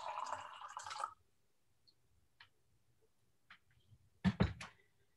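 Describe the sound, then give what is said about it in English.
Water pours briefly from a pitcher into a glass, then a few soft drips and small ticks follow in near silence before two loud clunks, like a glass or pitcher set down. “So God is like a pitcher, water pitcher, and we are like this glass, like the pitcher, created in the image of God.”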